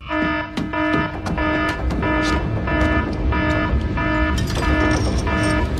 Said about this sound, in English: I kept having to check my phone for an alarm. Oh, do you have one? Do you have that on there for that? That sound? I did for a while. That is one of the stock Apple alarm noises.